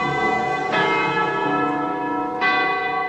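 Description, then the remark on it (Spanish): A large tower bell strikes twice, about two seconds apart, each rich, ringing toll blooming over a long, humming sustain. It sounds loud, with no voices. “Los encuentros podían hacerse al momento de las campanadas.”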